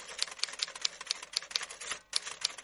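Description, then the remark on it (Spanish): Rapid, crisp clacking of a mechanical keyboard, keys struck in a steady quick rhythm with a brief pause near the end, moderately loud with no voices. “Tengo un teclado mecánico, amigo.”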